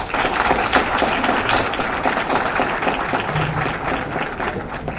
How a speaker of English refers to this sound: Big round of applause for our second speaker. Thank you so much for educating us about government shutdowns.